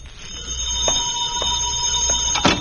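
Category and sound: household object, telephone ringing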